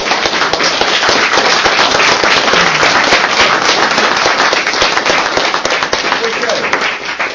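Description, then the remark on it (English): A crowd at a British nationalist meeting gives a warm round of applause for speaker Richard Edmonds, many hands clapping in a dense, loud, steady patter that fills the whole stretch and eases only slightly near the end. “Thank you for the warm applause.”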